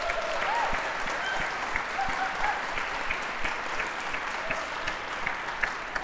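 An audience breaks into a sustained round of applause, dense overlapping clapping that stays steady and fairly loud throughout, with a few sharper individual claps and faint cheers or whoops mixed in.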